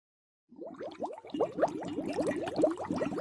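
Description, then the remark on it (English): Thick liquid bubbling and gurgling in the Sea Witch's cauldron as she stirs it, a dense, irregular stream of rising pops, starting abruptly and continuing steadily at moderate loudness, with no voices. “The Sea Witch stirred her bubbling cauldron.”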